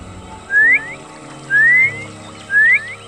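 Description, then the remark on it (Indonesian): Three short rising whistles repeat at an even pace, each a bright upward-sliding note, sounding clear over a faint low background. “Hei kepiting, untuk apa kau bersiul?”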